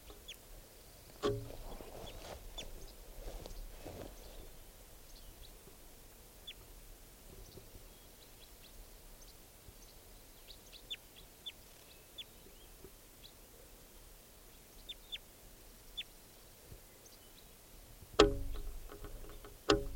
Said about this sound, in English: Recording that wild bird. Wild bird here.